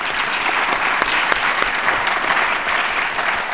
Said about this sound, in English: Please join me in applauding the speakers.